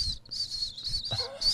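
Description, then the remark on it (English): A voice imitates a small dog crying, making high, thin whimpering whines in several quick pulses with brief breaks between them, moderately loud. “Actually, the little dog, he kind of cries and goes.”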